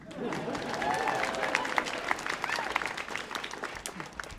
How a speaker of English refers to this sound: Hold for applause.